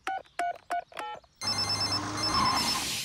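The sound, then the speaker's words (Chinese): A telephone for Grandpa Dog's repair service rings in four quick, evenly spaced bright tonal bursts, then a louder, noisy wash with a steady hum takes over. No one speaks. “这里是狗爷爷的维修服务电话。”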